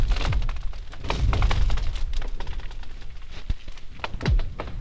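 Frozen lake ice booming and cracking as the sun comes up or goes down after a cold night, with deep thuds, sharp snaps and a couple of eerie sliding, zinging tones, going on steadily with no voices.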